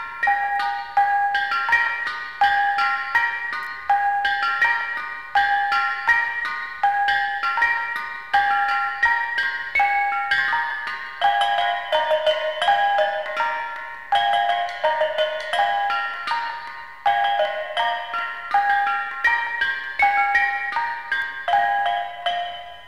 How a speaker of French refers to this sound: Voici un carillon de gong appelé bonang. Ce sont des sortes de pots en cuivre renversé sur deux cordes tendues.